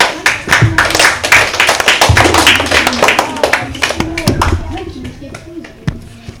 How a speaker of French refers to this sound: C'est une bonne réponse. Applaudissez-le.